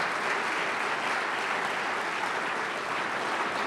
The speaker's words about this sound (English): If Bill Shonley is here, he'll rise, and let's give Bill Shonley, Mr. Oregon, a big round of applause.